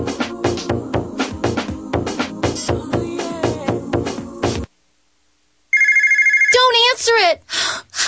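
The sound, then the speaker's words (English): A telephone rings with a steady, buzzing electronic trill, standing for annoying collection calls at the start of a debt relief commercial, coming right after a busy rhythmic stretch and a brief silence, then a voice starts talking over the end of it. “Annoying collection calls.”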